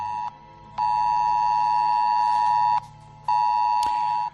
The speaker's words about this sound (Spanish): Es la alerta que ha llegado a los teléfonos móviles pidiendo que se evite cualquier desplazamiento por la provincia.